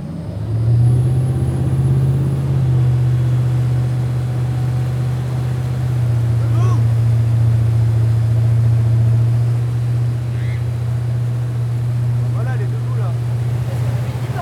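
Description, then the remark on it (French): A motorboat engine running on the water drones loudly and steadily from start to finish, a deep constant hum, with faint voices occasionally surfacing over the noise. “Au début, je le fais entre les deux vagues du bateau.”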